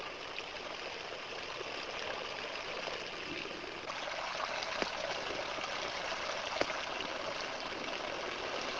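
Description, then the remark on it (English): A steady trickle of water drops falling in a Kelvin water dropper experiment runs continuously, hissy and even, with a couple of slightly sharper drips standing out partway through. No one speaks. “Kelvin's water drop experiment demonstrates for us that not only does the motion generate the electric field, but that the field also has a strong influence on the motions.”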